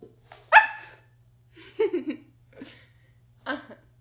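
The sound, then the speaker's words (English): A person imitates a dog, letting out four short, yappy barks with brief pauses between them, fairly loud, with no other talking. “Okay, master, for you, I will actually bark.”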